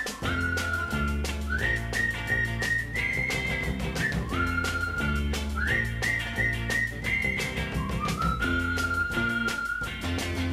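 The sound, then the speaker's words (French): A friends' call whistle, a short tune whistled to call someone: short phrases, each opening with an upward slide into a sustained note. The clear whistle carries over steady, loud instrumental backing music, with no voices. “Pour l'appeler, il emploie un truc qu'ils ont mis au point, le sifflet des copains.”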